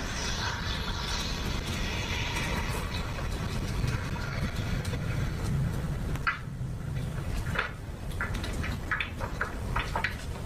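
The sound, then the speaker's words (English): A 2005 white Acura's engine rumbles steadily as it pulls up outside a house at night, seen on Ring camera footage, a low continuous drone with outdoor hiss, joined in the second half by a few brief sharp clicks or knocks. No one speaks. “So police are able to connect that 2005 white Acura that pulled up to Zion's house back to Jalen.”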